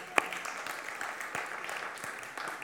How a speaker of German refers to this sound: Und auch für die Väter. Amen. Väter, wo seid ihr? Klatschen.